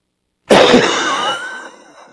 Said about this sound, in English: I'm about to have a coughing fit, and it's not going to be any fun for any of you.